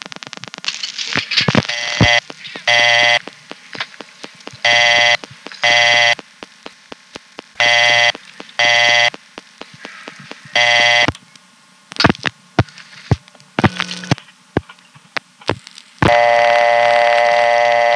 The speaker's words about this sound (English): Now, unlike the partial dial signal in places like Bell Harbor, this vacant code tone does not time out. You can stay on it all day because it has its own dedicated trunks.